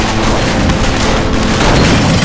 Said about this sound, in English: Smoke ducked just in time to escape a hail of bullets coming from the street when some of the raiders had heard his gun.